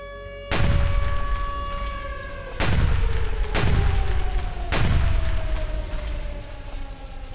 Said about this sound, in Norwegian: Fra transformatorhuset skyter en stikkflam opp, lyser opp natten og skaper et øyeblikk for dagslys, før den forsvinner ned i mørken. Så, flere smell på rad.